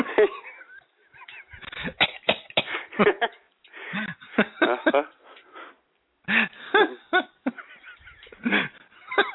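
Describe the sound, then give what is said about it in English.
A voice imitates a barking croup cough: a run of harsh, honking coughs in rapid bursts, fairly loud, broken by one brief pause before the barking resumes. “She's talking about her daughter having a croup. Jesus criminy. Just a little cough.”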